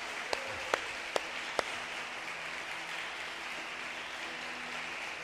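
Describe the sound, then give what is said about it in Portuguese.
An audience applauding in a steady, dense wash of clapping, with a few sharper, louder individual claps standing out near the start; no one speaks. “Se é para aplaudir, aplaude.”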